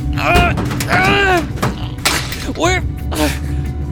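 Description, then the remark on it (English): Someone struggles to force open a chamber door locked from the inside, with several loud bangs and rattling thuds between strained grunts and effortful vocal sounds, all over a steady low background rumble. “It's not working. I can't get the door open.”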